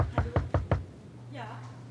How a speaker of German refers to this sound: Wir gehen also zurück zu dem Zimmer der Autorin, Zimmer 12 auf der anderen Seite. Mhm. Ihr kommt an die Zimmertür. Klopfen freundlich an. Ihr klopft freundlich an.